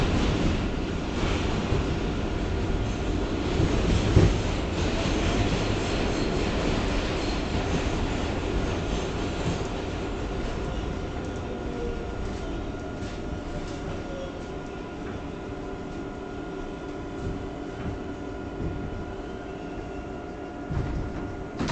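A Parkchester-bound 6 local subway train rumbles steadily between Third Avenue–138th Street and Brook Avenue, a loud, continuous low roar of wheels on rails with faint metallic squeals and rattles, and no voices.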